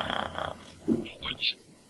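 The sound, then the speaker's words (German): A voice imitates a cat's purr with a rough, rapidly pulsing rumble for about half a second, then a few short, higher-pitched vocal sounds follow. “Ja, ich kann schnurren.”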